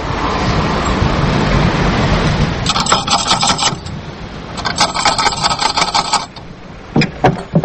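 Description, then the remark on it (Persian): A few sharp knocks on the blue door of Dr. Farooq's house land near the end, after two bursts of a buzzing, rattling mechanical sound over a steady background hiss. No one speaks. “او که زنده باشی، باش که برم و تک تک بزنم که دیوانیم کردم.”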